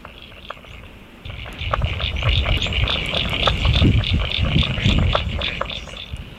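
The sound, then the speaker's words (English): A frog calls in a steady series of short, bright, pulsing notes that repeat rapidly, with a low rumbling background that swells in partway through. “Still another frog.”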